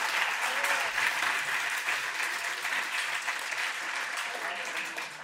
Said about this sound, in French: J'ai travaillé fort, tu peux applaudir ou dire amen quelque chose, là.